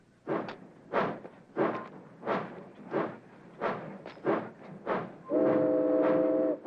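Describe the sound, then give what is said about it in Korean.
Shack's freight train No. 19 sets off again toward Portland, its steam locomotive chugging in steady, evenly spaced puffs of exhaust, about nine heavy chuffs, then a loud, sustained whistle blows near the end. “셰크의 화물열차 19호는 포틀란드를 향해 다시 출발하고”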